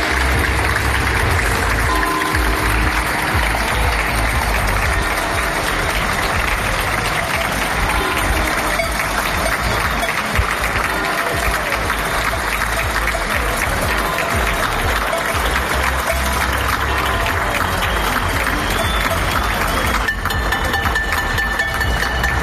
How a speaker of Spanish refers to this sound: La sociedad aplaude cada tarde noche al personal sanitario. Así sonaba en los balcones del barrio de Ocouto.